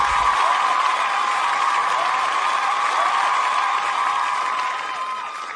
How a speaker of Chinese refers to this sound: 再次谢谢，掌声送给你，